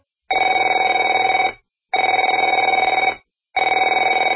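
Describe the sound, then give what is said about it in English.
A telephone rings in three loud, evenly spaced bursts, each a rapid trilling bell lasting over a second with short silences between, and no one speaking. “Afraid to answer it?”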